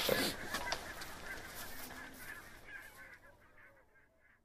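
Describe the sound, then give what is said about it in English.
A flock of compact little geese honks in a busy, overlapping chorus at nearly feeding time by the big hide, loud at first and then thinning out and fading, with no voices present. “They are compact little geese. And it's nearly feeding time.”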